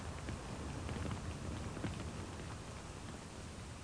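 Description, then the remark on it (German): Heavy rain pours down over a burning high-rise building in a dense, steady hiss, with scattered drops pattering. No voices, just a continuous downpour for a few seconds. “Es regnet. Was heißt es regnet? Es gießt in Strömen.”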